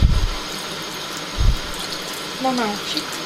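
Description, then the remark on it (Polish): Tap water runs in a steady hiss for the whole stretch as someone uses it while getting ready to brush their teeth, broken by a couple of low thumps and a brief voice sound near the end. “Właśnie mi używa wodę.”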